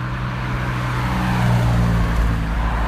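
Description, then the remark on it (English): An Aston Martin DB5 car drives past on a road, its low engine rumble swelling to a peak around the middle and then holding steady over a wash of road noise. No one speaks. “oh my goodness, Aston Martin DB5. Listen.”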